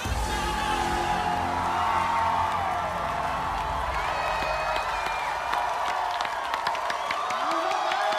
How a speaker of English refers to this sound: The judges applaud.